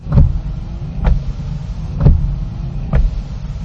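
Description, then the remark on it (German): An unborn baby's heartbeat heard through an ultrasound monitor: four muffled, whooshing thumps about a second apart over a steady low, dull rumble, with no talking. “Herz macht Bobum, Bobum, Bobum. War das bei dir in der letzten Schwangerschaft?”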